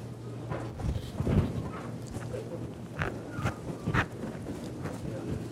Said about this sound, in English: Ah, hear those pages turning. Psalm 87.